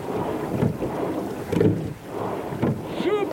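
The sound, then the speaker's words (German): Oars stroke rhythmically through water in a rowing boat, three splashing pulls about a second apart over steady wind and water rush, with no one speaking. “Frei weg! Frei weg? Einfach rudern.”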